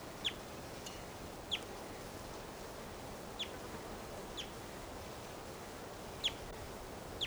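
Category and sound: bird, wild bird calling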